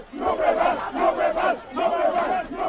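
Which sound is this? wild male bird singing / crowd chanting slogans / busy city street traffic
crowd chanting slogans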